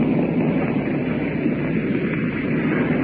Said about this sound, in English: Now the darkness has come on it. These planes you hear overhead now.